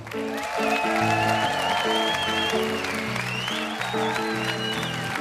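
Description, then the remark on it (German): A large audience applauds steadily and loudly as the evening's host, Hennes Bender, is called onto the stage, while upbeat music with a strong bass line and melody plays over the clapping. “Machen Sie einen ganz großen Applaus für Ihren Moderator heute Abend, Hennes Bender.”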